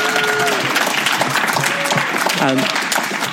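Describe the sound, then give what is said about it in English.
A room full of people claps steadily and densely for several seconds, a continuous wash of applause with a few voices faintly rising through it. “So welcome, and feel free to clap if you want to.”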